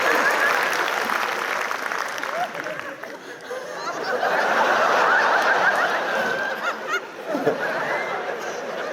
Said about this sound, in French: On fera pas de bruit. On va arrêter d'applaudir pour toi